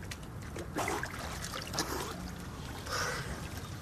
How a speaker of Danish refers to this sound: Du prøver at tage hovedet under vandet nu her, se om det er andet.